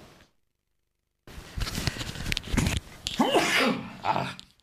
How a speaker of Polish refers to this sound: Tym razem mnie złapało na wizji. Ale nic, idziemy na żywo. To i kichnąć niekiedy trzeba.